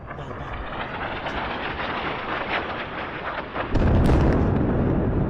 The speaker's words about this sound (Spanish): Explosiones masivas sacudieron el sur de Beirut la noche del jueves 3 de octubre. Los ataques continuaron hasta este viernes, dejando más muertos y heridos a su paso.